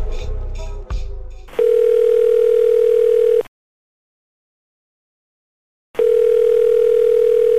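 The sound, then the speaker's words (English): A brief burst of rustling and clunking gives way to a steady, loud telephone dial tone as a phone call is placed, humming for about two seconds, cutting to silence, then returning unchanged. “Let's call up Catherine and see what she says.”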